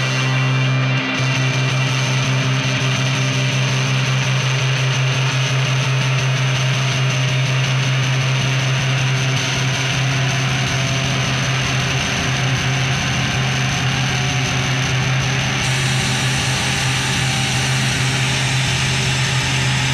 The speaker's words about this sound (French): Sur la version studio, il y a ce pont de 40 secondes qui ressemble fortement à un avion qui décolle.